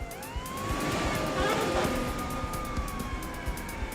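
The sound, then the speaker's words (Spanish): A police siren wails in a long, slowly rising and falling tone, fairly loud and close, over a low rumble of traffic and street noise, nearing armed bank robbers fleeing in Cincinnati in December 1995. “El sonido cercano de las sirenas evitó que la joven resultara herida de gravedad.”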